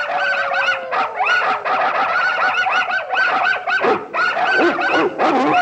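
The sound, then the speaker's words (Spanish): A crowd of puppies in a pet shop yaps and whimpers nonstop, high-pitched barks and whines overlapping in a busy chorus with no pauses. “En una tienda de animales, los cachorros se alborotan.”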